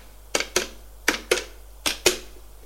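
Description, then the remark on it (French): A telephone number, looked up in a notebook, being dialed: six sharp, dry clicks arriving in three quick pairs, fairly loud and crisp, with no voices and only a faint low hum underneath. “Charlotte regarde sur son carnet le numéro de téléphone de Madame Calandre et fait le numéro.”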